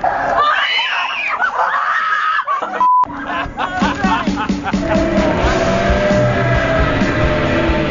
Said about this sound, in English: This video shows an amazingly realistic T-Rex costume, complete with a frightening growl, popping its head out of trucks and alleys, even playing a game of ding-dong ditch, eliciting screams and laughter from its surprised victims.